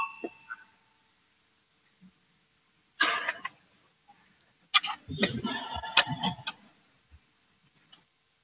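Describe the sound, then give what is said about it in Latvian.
A short tonal voting bell sounds at the start of a vote on committee proposal 142 in a parliament chamber, followed by scattered clicks, knocks and rustling bursts of movement. No one speaks. “Lūdzu, zvanu, balsosim par 142 atbildīgās komisijas priekšlikumu.”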